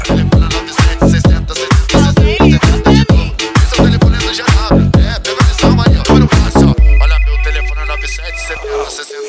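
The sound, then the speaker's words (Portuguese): A ringtone-style electronic melody rings out over a loud, pounding bass beat, then the beat drops away, leaving a sustained synth tone and a steady high beep that fade out. “Alguém ligou pra mim.”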